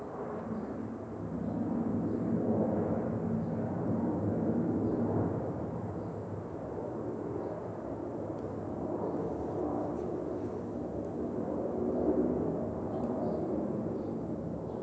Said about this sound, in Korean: 비행기 좀 지나가고 나면. 예, 그러시다 맞아. 갑자기 또 비행기가 오네. 맞아.